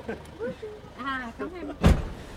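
People chat briefly as a passenger gets into the front of a car, then the car door shuts with a single heavy thud near the end, followed by a short muffled tail.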